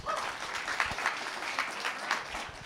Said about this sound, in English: Give Dora a round of applause again.